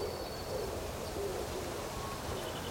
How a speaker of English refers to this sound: Well, that wood pigeon's really going for it.